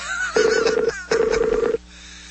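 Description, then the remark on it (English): Two short bursts of electronic telephone tones as someone places a phone call, each a steady buzzing pitch with a fluttering pulse, separated by a brief gap. Clear, with no voices. “I'm calling you. Pick up the phone. I'm calling you.”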